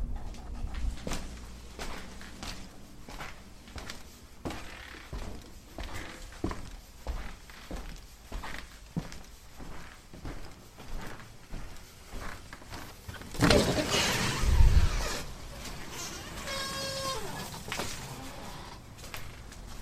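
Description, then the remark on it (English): Steady, evenly paced footsteps of someone carrying a drink from the kitchen down the front of the house to the front porch walk for several seconds, then a louder rushing clatter breaks in, followed by quieter steps and a few thin, high chirping tones. No one speaks. “and then one taking the drink from in this particular case from the kitchen down the front of the house and to the front porch”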